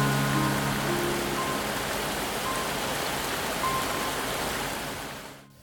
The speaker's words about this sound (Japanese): わあ、急に雨降ってきた。なになに、ゲリラ豪雨だよ。はあ、びしょ濡れだよ。